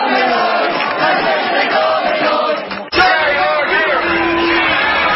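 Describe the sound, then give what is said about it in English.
A dense crowd of anti-vaccination protesters roars with overlapping shouts and voices, loud and sustained throughout with a brief dip and sharp burst near the middle, like a rally in full cry. “Anti-vaccination protests took place in major cities across the world on Saturday as a backlash to the rising tide of mandates.”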